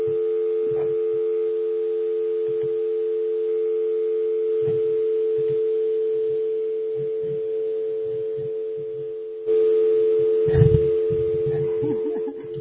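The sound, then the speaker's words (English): A telephone line being dialed as someone calls in on a telephone instead of a headset: a steady dial tone hums throughout, with soft muffled thumps and faint voices underneath, growing louder toward the end. “I'm going to then hang up off my headset and call in on my telephone”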